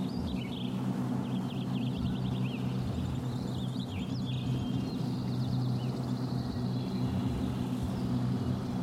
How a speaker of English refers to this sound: Stupid logging trucks.